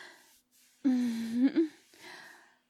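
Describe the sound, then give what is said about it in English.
A voice imitates panting: a few breathy exhales around a loud, voiced, moan-like gasp in the middle, with short gaps between the breaths and no spoken words. “My goodness, are you already panting?”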